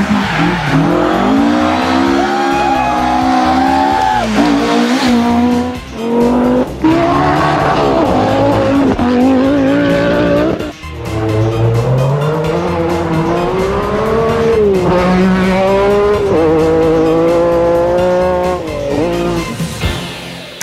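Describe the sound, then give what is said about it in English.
Loud, continuous car noise with engines revving and pitching up and down, tires squealing and skidding throughout, like racing action, with no voices. “Car sounds?”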